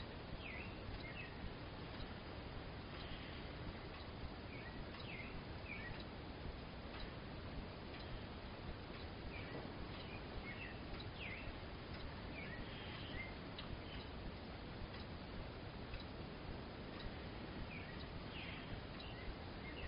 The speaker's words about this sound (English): May I meet this appreciation for bird sound with friendliness.